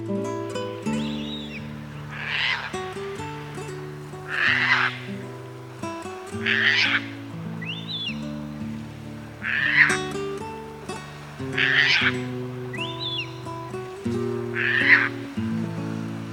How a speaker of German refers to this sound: Das war die Raubseeschwalbe.